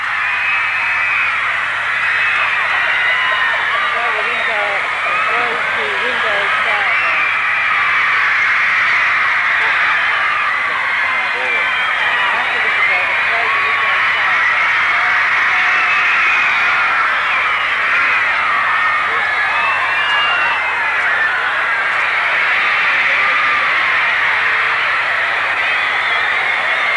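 A large crowd chants and shouts outdoors in a dense, continuous roar of many voices, loud and steady for the whole stretch with no single speaker standing out.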